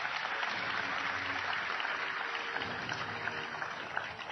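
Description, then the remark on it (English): Sustained audience applause for Secretary of the Interior Ken Salazar, a dense wash of many hands clapping at a steady level throughout, with a faint murmur underneath and no clear speech. “So please give him a big round of applause.”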